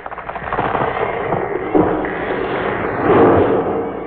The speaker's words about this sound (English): There now. Your mother has knocked down the big tree.